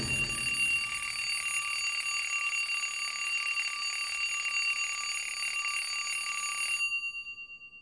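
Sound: alarm clock ringing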